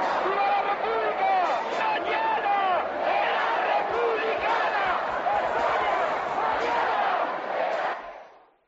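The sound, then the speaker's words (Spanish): A large crowd of protesters in the Puerta del Sol, Madrid, demanding a referendum on keeping the Spanish monarchy, chants a slogan in unison, many voices blending into a loud, continuous roar with rhythmic emphasis, scattered sharp claps or thumps underneath, before fading out at the end. “El grito de guerra en la Puerta del Sol de Madrid era este.”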